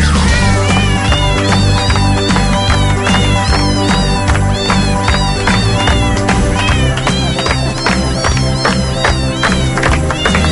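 A loud, busy song version from the internet with a steady beat and bass, its melody sung in repeated cat meows that rise and fall throughout, with no talking.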